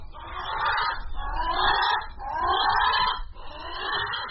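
Four long, harsh, drawn-out calls of captive Hawaiian crows (alala), kept in aviaries in Hawaii, follow one another in a steady rhythm, each roughly a second long, raspy and mid-pitched, with no voices present.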